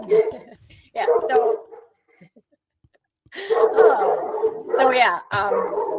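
A dog barks in several loud bursts: a couple of quick barks, a pause, then a longer run of excited barking and yelps.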